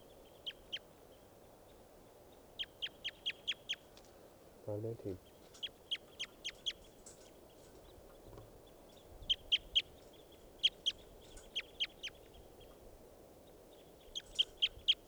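High, sharp bird calls come in quick bursts of three to five notes, repeating throughout over a low, steady rumble, with one brief low thud partway through.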